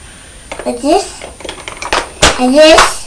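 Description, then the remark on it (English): Toy trains clatter against a high chair tray in irregular knocks and taps, with a young child's high babbling voice rising over the clatter twice. “Are you playing with your trains on the high chair?”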